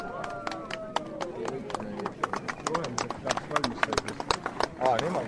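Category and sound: crowd, applause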